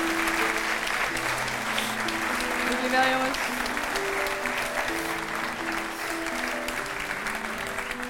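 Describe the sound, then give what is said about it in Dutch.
Steady audience applause for team members being thanked fills the whole stretch, a dense wash of clapping that stays loud and even, while a voice speaks briefly over it with some tonal music underneath. “Applaus, mag wel.”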